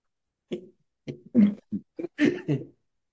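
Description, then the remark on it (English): A fairly loud fit of short, harsh coughs from a somewhat asthmatic person fighting off an infection, about half a dozen bursts in an uneven rhythm over a few seconds, with no talking. “So when I laugh, sometimes I cough.”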